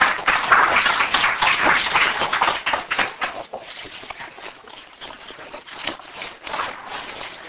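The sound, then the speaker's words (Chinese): A room full of people in classroom 118 applauds to welcome Pastor Xie for a lecture on the postmodern church and the crisis of faith, a dense burst of clapping that is loudest at first and then thins out into scattered, fading claps. “好，下面我们以掌声来请出谢牧师。”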